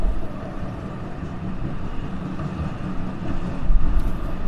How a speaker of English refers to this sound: As a tram goes past, as I was walking down from Clarendon Street, where I caught the number 112 tram from the centre of Melbourne,